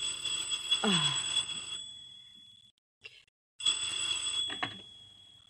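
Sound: telephone ringing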